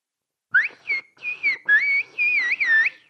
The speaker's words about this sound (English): And how about, we speak whistle language. İslik dili konuşuyoruz.